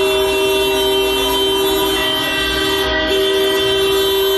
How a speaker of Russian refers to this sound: Затем все автомобилисты в течение нескольких минут сигнализировали в знак солидарности.